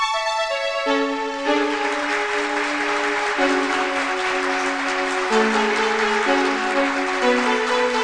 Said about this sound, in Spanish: Los amigos comenzaron a aplaudir y los transeúntes comenzaron a arremolinarse para ver el improvisado espectáculo.